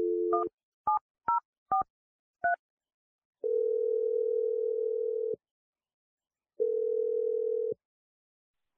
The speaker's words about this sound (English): I'm going to dial the phone number. We're going to call Avery